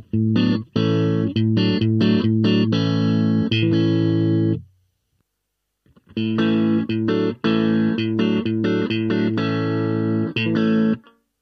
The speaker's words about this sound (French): c'est ceux que j'ai trouvé pour tone matché, hein, je mets des gros guillemets avec cette jolie expression anglaise, le son qui sort de la Dream 65 versus la Strymon en mode Fender Deluxe. Donc ça nous dit quelque chose comme ça.